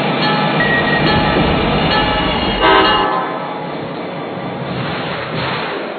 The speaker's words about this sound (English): Now arriving from Portland on track number 6, train number 684, the Downeaster.